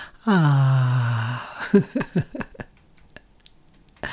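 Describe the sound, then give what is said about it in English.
A single voice tones a drawn-out "ah" on the out-breath as a root chakra sound, for over a second, steady with a slight downward glide, then breaks into a few short, soft vocal sounds before quiet. “And then on the out breath, make the sound of R through your root chakra, breathing out through your root.”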